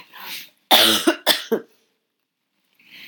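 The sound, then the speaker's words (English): A loud burst of coughing, a harsh hacking cough followed by a couple of quick throat-clearing hacks, with soft breathy noises before and after and no talking. “I've got a cough.”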